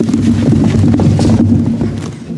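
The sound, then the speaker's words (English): Donkey hooves clomp steadily along a dirt road, a fairly loud run of hollow thuds in an even walking rhythm, with no voices; the donkey is bearing a heavy load. “and the clomping of a donkey bearing a heavy load.”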